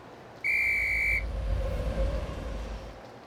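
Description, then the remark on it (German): A train pulling into a station sounds one steady, high-pitched whistle blast lasting under a second, over a constant low rumble of the moving train that continues after the whistle stops. “Der Zug fährt ein.”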